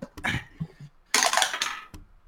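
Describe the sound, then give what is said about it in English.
Dice rattle and clatter across a hard surface in two bursts: a short tumble, a pause, then a longer, louder skittering roll that stops with a final sharp click. The dice are rolled in a game for Mr. Dragon's claw and bite attacks. No one speaks. “And he will take a swing in a second when I find my dice, which is on my lap.”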